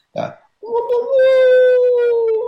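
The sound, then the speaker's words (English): A person imitates a wolf howl with their voice: a short breathy sound, then a loud, sustained, slightly rising wail held for about two seconds. “One good thing people can do is, if they have a hard time wailing, is do the sound of a wolf howl.”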